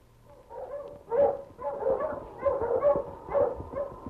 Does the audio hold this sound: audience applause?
no